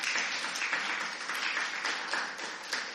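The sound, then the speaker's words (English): A church crowd at Last Adam Tabernacle applauds the worship team steadily, many hands clapping in a dense, continuous wash of sound that holds at an even level for the whole stretch, with no voices standing out. “Give a big hand clap to the worship team.”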